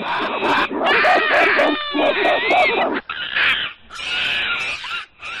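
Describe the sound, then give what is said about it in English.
Monkeys in zoo cages screech loudly and continuously as visitors approach, a dense overlapping chorus of shrill, warbling cries with rising and falling pitch and brief pauses between bursts. “When we approached the monkey cages, their reaction was far from reserved.”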